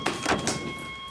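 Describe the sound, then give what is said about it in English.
A security door rattles and jolts against its frame in three quick, clattering bursts as it fails to open, then goes still, with a faint steady electronic tone running underneath. No one speaks. “It won't open because it's a security door.”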